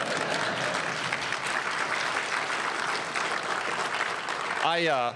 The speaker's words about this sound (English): It's an exciting time for the Federalist Society to be celebrating your 35th anniversary with a new Republican administration in Washington. And you know, you can clap for that.